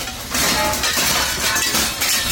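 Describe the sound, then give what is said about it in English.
Window glass shatters loudly, a sharp crash followed by about two seconds of dense crunching and tinkling fragments, with no voices; windows broken at 6 a.m. during a raid by agents on an apartment in Oceanside. “On June 18th, the Robles Ortega family woke up at 6 a.m. to shattered windows and loud noises.”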